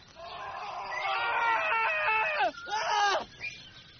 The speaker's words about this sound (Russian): Ехали день, и два, и три. На четвертый подъезжают к дремучему лесу, и послышался им страшный крик.